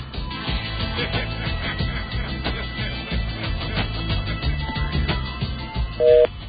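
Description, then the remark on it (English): A phone call being placed to a tips hotline, with a short burst of keypad dialing tones as a secret code is entered and an electronic call signal over a busy, steady background of sound, moderately loud. “And those of you familiar with the show should recognize that phone number by now. And we're going to enter our secret code.”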